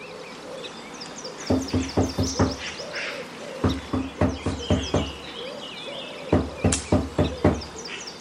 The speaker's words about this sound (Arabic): ذهب الثلاثة الفيل الطبيب وفرفور وأرنوب إلى بيت ديكو، وقد طرق الفيل الباب.